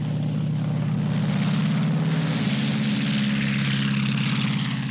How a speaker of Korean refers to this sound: 약간의 음식을 먹고 위니메이 호에 연료를 공급한 포스트는 잠시 후에 다시 하늘로 날아갔습니다. 이번에 향한 곳은 러시아였습니다. 오랜 시간을 비행하는 동안 포스트의 귀에 들리는 것은 오직 엔진 소리뿐이었습니다.